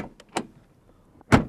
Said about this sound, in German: Und es gibt eine Autotür.